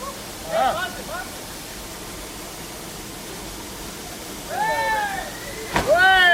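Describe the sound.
A steady, constant rush of water falling from a waterfall fills the whole recording, with brief excited voices calling out near the start and again toward the end.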